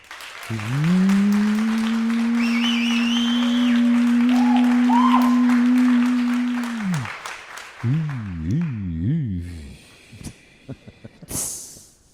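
An audience claps steadily for about ten seconds while someone holds a long, loud, droning cheer, followed by a few wavering whoops before the applause thins out.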